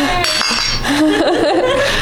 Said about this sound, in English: Clink. Clink. Cheers.